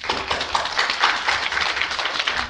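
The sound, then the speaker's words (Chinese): A crowd at a Christian gathering in Changhua claps steadily for a couple of seconds, applause offered to God, a dense wash of many hands applauding together with no voices standing out. “所以在座彰化啦，为着你生于彰化，咱甲咱的掌声，献给咱的上帝。”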